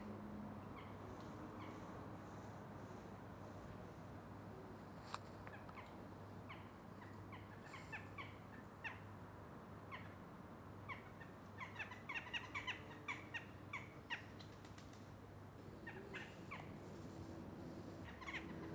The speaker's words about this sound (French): C'est agréable de travailler avec le chant des oiseaux.